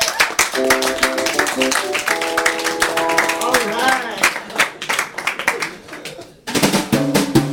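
Loud, dense applause from an audience, with many overlapping claps and excited cheers and whoops rising over them, briefly dropping off before surging again near the end.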